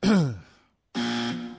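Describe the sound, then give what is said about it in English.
A male caller on a phone line clears his throat twice, moderately loud: a short, gravelly voiced rasp that trails off, then a brief pause and a second, steadier throaty rumble. “Clear his throat and everything, all ready to go.”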